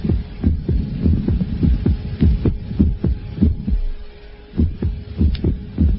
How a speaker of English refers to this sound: When I go to bed at night, I keep myself awake listening to the silence that replaces every eighth or ninth beat of my heart.